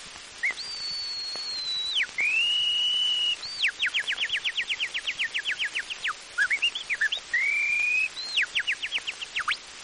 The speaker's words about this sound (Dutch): Een slag en een gewone kanarie. Een slag en een praktische kanarie.